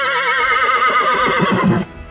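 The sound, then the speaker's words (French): A horse whinnies loudly, a single shrill, quavering neigh that wavers and drops in pitch before cutting off, with no voices. “Puis elle fit faire demi-tour à son cheval et s'en alla loin, très loin.”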